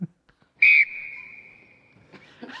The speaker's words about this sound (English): there's a very like meek like whistle.